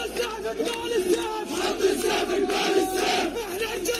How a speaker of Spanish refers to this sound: En la franja de Gaza cantan con este tras este alto el fuego y lo celebran como una victoria.